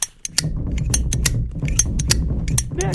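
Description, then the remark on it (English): A Zippo flip-top lighter's wheel is struck again and again by someone trying to light it, a quick irregular run of sharp metallic scrapes and clicks, with no flame catching and no voices. “Oh, come on, you stupid Zippo. Oh, work, damn it.”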